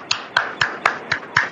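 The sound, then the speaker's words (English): One person claps alone, applauding himself, six sharp, evenly spaced claps at a brisk, steady pace, clear with no talking. “Applauding for myself.”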